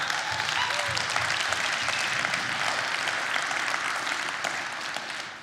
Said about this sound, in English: this woman of God, every week shares the gospel on campus. She goes and finds people. She's led by, no, you can applaud for it.